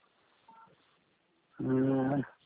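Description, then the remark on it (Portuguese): Telephone keypad tones over a narrow phone line: a short, faint beep, then after a pause a louder, sustained tone lasting under a second. “Vou consultar pelo telefone.”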